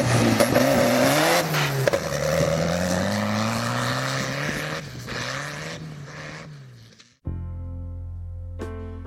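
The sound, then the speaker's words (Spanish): A tractor engine runs loud, a rough, steady rumbling drone that holds for about seven seconds before cutting off abruptly, replaced by steady tonal sound. “Venga tú, monta en el tractor y vamos practicando para el ahorro de los Hays.”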